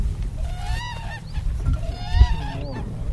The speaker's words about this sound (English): The endangered whooping crane is the tallest North American bird, and it's named for its distinctive whooping call.